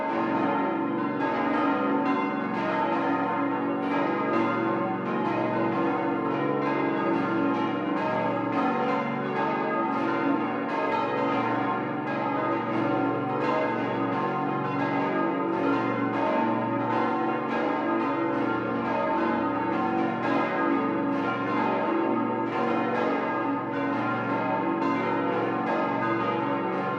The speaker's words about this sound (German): Wie vor 75 Jahren beginnt auch am heutigen Heiligen Abend diese besinnliche Zeitreise mit dem Glockengeläute aus dem oberbayerischen Kloster Ettal.